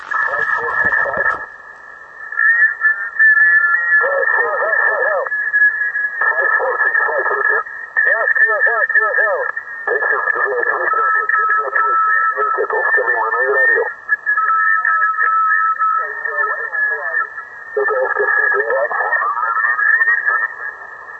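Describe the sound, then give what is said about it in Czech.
A radio transmitter broadcasting a signal hums along with a steady, high carrier tone, overlaid by loud, narrow-band bursts of warbling, garbled voice-like sound that start and stop repeatedly for about twenty seconds. “Teď vysílá.”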